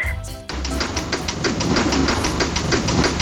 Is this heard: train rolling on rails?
yes